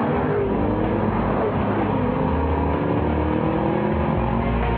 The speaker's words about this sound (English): There are engines. And then there's the twin turbocharging, 365 horsepower generating, EcoBoost engine in the all-new Ford Taurus show that has the thirst of a V6 with the thrust of a V8.